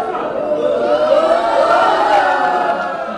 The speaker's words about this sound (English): To a huge cheer from the crowd, 42-year-old Zhai Zhigang emerges from the hatch. The students jump to their feet, waving their flags.